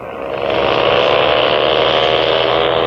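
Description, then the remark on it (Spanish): A powerful motorboat engine roars steadily, a loud continuous droning whine that swells slightly at the start and holds for a few seconds, with no voices: the Delfín speedboat, a super-powerful engine running on RM super fuel, racing over the waves of the Aegean Sea. “La lancha es como una enorme saeta disparada por encima de las olas.”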